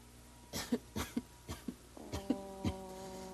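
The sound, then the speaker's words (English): A quick series of about seven short, raspy coughs in an uneven rhythm, moderately loud, with no talking in between. “I was so sorry to hear about your cough.”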